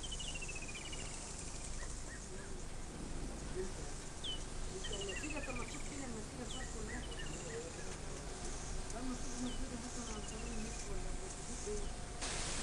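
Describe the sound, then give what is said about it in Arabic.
A dense tropical rainforest chorus of many animals passing by, too numerous to tell apart: steady high insect and cricket droning underneath, with repeated descending bird whistles and scattered chirps and calls layered throughout, continuous and fairly loud, with no talking. “ونسمع أصوات الحيوانات التي تمر إلى جانبنا من دون أن نتمكن من التمييز بينها تماماً لوفرتها في هذه الغابة الاستوائية.”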